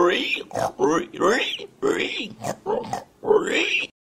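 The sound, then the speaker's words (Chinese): A frightened pig on a farm, running about as a fox is chased, oinks and grunts in a rapid string of agitated, squealing bursts, about six loud calls with brief gaps between them. “猪亦都被吓亲，响度乱咁走啊！”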